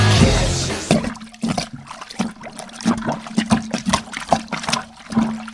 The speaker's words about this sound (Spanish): A Harry se le fue la mano con la sopapeada y produce un gran bacanal de heces y coliformes fecales, salpicando de lleno y en gran cantidad sobre la humanidad de Peter.